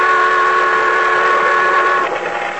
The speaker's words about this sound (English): The boat siren, crying its warning, drowned out my shouts.